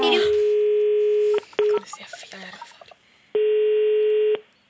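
A telephone line, loud: a long, steady ringing tone, a couple of quick beeps and dialing clicks, then a second long ring before it cuts off, as a call is placed to the author Kristina Olsson.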